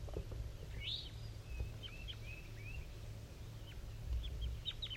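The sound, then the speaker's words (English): A wild bird in the top of a dead pine at 7:50 a.m. gives soft, weak, scattered chirps and short whistled calls, faint and high-pitched, repeating irregularly over a steady low rumble. “Wild bird calling.”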